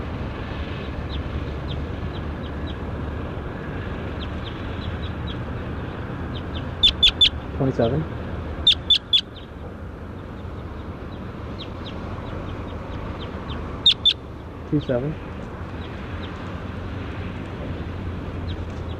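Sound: bird calling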